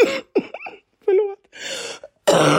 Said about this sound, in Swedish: Jag hostar när jag skrattar. Så att host betyder skratt från mitt håll.